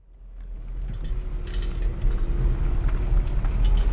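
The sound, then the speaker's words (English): A car drives through deserted, unlit streets in Haiti at night with a steady low engine and road rumble, while graffiti spray cans clink and rattle intermittently in the boot. No one speaks. “As they drove through the deserted, unlit streets, graffiti cans rattling in the boot of the car”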